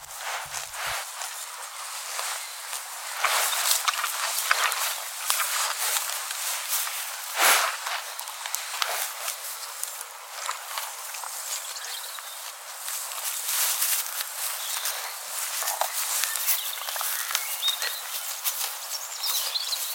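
A cow chewing grass or hay: steady, crunchy grinding and tearing with soft rustles, continuing for the whole stretch at an even, moderate loudness, with no voices.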